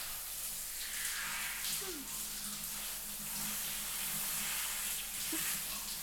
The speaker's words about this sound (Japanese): じゃあ泡を流していきますよ。よいしょ。はあ、熱くないかな。